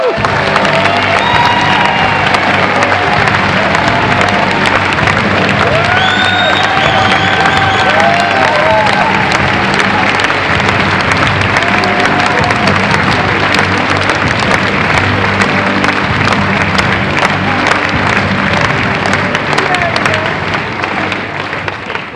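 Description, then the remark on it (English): At an award ceremony, a large crowd applauds steadily and cheers as last year's award winner is brought onto the stage, with whoops and shouts rising over dense, continuous clapping that holds at full volume for over twenty seconds before easing slightly at the end. “Last year's winner of the Heart of the Gym Award, please bring up onto the stage with a big round of applause,”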